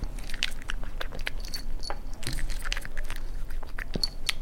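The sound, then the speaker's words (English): A dog gulps down hard treats found on a table without chewing, with wet lapping and smacking mouth noises in a rapid, irregular stream of clicks and slurps. No one speaks. “There's no crunching noises. There are just lapping noises.”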